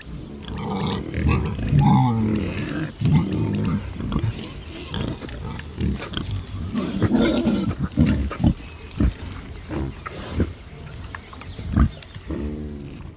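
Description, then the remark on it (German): A group of wild boars, a large boar, a sow and three piglets, grunt and snort in deep, rough bursts, overlapping irregularly throughout, with a few sharper squeals and snuffles rising above the low rumbling chorus. “Es ist eine Gruppe von Wildschweinen.”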